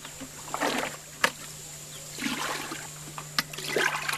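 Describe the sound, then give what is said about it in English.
A thirteen-year-old boy repeatedly dips a large bucket into a shallow hole and scoops up brown brackish water for washing, giving a few sloshing splashes and knocks, with a faint steady hum in the background, in a village in Western Equatoria, southern Sudan. “lowers a large bucket into a shallow hole and scoops up brown brackish water to bring home for washing, a daily chore to help his family.”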